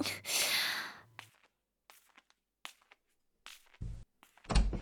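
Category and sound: household object, door being opened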